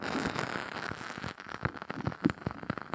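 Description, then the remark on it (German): Soft, irregular crackling from the burning wooden wick of a fireplace candle, with scattered small pops and snaps over a faint hiss, quiet, with no voices. “Ein Knistern von Holz.”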